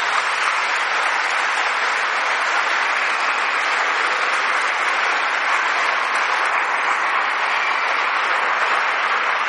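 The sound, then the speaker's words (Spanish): A large audience applauds warmly and steadily in honour of Pope John XXIII, a dense wash of clapping that stays loud and even from start to finish with no voices breaking through. “Y una vez más, yo quiero darle gracias a Dios por Angelo Roncalli, por el Papa bueno, por el Papa Juan 23, con un caluroso aplauso.”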